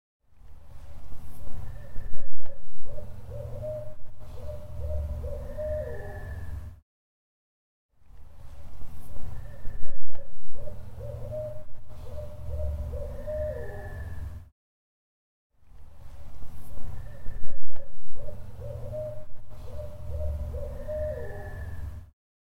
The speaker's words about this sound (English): Yeah, we had an owl from a distance, and then we had one that was coming up from down the hill. And he was really sounding off, and it sounded like he was getting closer as he was going.